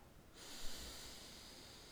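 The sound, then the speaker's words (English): A single long, deep breath drawn in, a soft airy rush that starts abruptly and holds steadily with no talking. “Breathing in deeply and releasing.”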